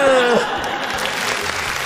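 applause

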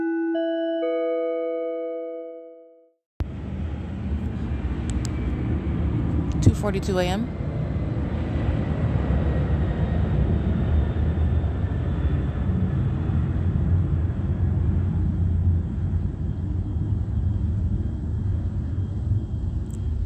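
airplane flying overhead

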